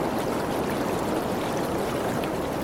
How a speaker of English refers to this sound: You always know you've gone too far when you hear the sound of running water.